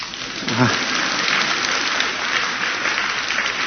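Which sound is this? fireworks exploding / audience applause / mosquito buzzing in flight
audience applause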